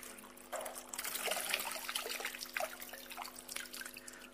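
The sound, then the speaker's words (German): Water pours steadily from a jug for about four seconds, quickly emptying it, a splashing trickle with a few brief gurgling surges, starting abruptly after a short quiet moment. No voices. “So, diese Krug ist schnell leer.”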